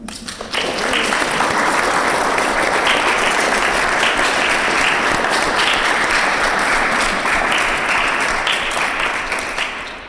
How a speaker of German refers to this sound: Ich glaube, Sie haben alle ganz grossen Applaus verdient.